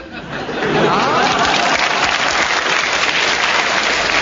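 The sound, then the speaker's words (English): A crowd breaks into loud, sustained applause in support of a panellist's challenge for deviation, building quickly in the first half second and then holding steady, with a few chuckles and murmurs mixed into the clapping. “The audience applause convinces me that you have a correct challenge, so you gain a point for that.”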